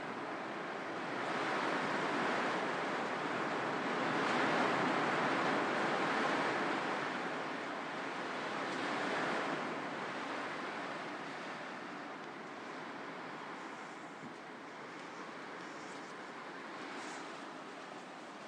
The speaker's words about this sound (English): It's coming up to 11 o'clock in the morning UK time, and this is the rain in my caravan again.